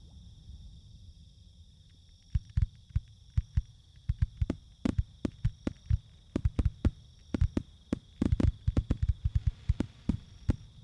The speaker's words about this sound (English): Looks like they brought out the big ones this year. And look, fireworks in the shape of smiley faces. Those red and gold ones sure look festive. Oh, I love big fireworks.